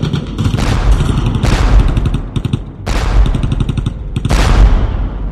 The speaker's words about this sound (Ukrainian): Великокаліберні болтерні снаряди впилися в броньовані коліна мерця. Потужні вибухи розсікли броню, укріплену пласт-сталь, розірвали кістки і сухожилля зчленувань.